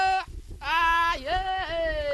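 A young Fulani (Peul) herder of the Mbororo ethnic group in Chad calls out to his herd of cows across a vast desert expanse in the heat, in long, high, drawn-out wavering cries: a short call, a pause, then a sustained cry that dips and rises. There are no clear words.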